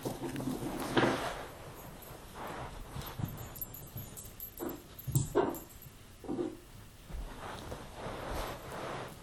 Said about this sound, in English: Behind me, our puppy was going onto the bookshelf and picking up his bones. And he was deciding from one bone to another. And he'd pick it up and put it down. He'd pick it up and put it down.